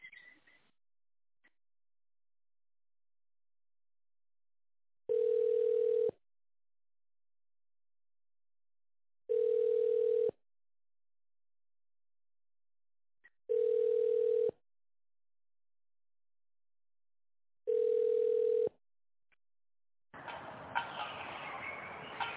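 A telephone keypad is used, sounding in four steady, evenly spaced beeps about a second long, separated by silences. A burst of muffled noise follows at the end, with no talking.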